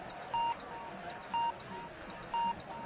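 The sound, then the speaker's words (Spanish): Three short, steady high-pitched beeps spaced about one second apart, a radio time signal marking 10 p.m. (9 p.m. in the Canary Islands) on COPE's Tiempo de Juego broadcast, sounding clearly over a low background murmur. “Señales horarias de las 10 de la noche, las 9 en Canarias.”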